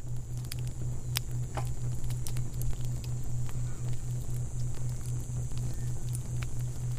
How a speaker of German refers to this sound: Du legst dich bäuchlings hinein und spürst sofort die angenehme Wärme des Feuers. Wie gut das duftet und wie schön das knistert.